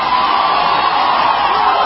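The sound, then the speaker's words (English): A large American crowd cheers and shouts continuously, chanting "USA", a dense, steady roar of many voices with whoops rising out of it, loud and unbroken throughout. “Listen to this crowd.”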